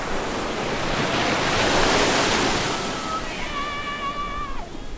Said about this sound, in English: and all of a sudden you're at the edge of a bluff, and my God, it's the ocean! Both directions, as far as you can see, nothing but sand and ocean, and that's it.